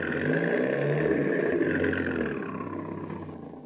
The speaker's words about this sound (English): here comes a Chrysler coupe now, just rounding that corner